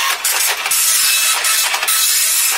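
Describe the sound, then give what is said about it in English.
A slow printer runs through a page with a steady, loud mechanical whirring and hiss, broken by a few short rhythmic surges as the paper feeds. No one speaks. “Just printing it off now.”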